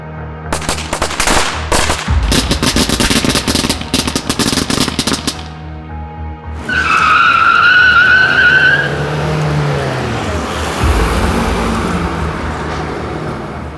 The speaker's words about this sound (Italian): Ma la pace viene bruscamente interrotta da un gruppo di giovani festaioli che irrompono nel parcheggio, creando scompiglio e lanciando petardi.